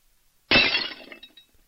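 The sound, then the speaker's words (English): A ceramic cup, sent with a flick of the wrist, shatters against a stainless steel table leg in one sharp, loud crash, followed by a second of scattered tinkling fragments and faint ringing that quickly fade out. “With a flick of his wrist, he sent a ceramic cup crashing against the stainless table leg.”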